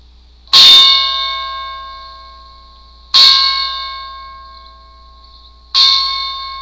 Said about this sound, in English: Sounds like bells are ringing.